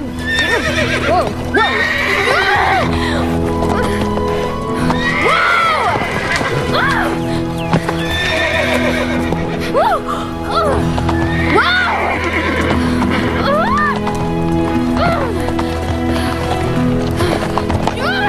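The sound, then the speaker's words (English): A horse with a rider in the saddle rears up and whinnies loudly and repeatedly, its shrill neighs rising and falling, with clattering hooves mixed in over a steady sustained musical drone throughout. “The horse rears up.”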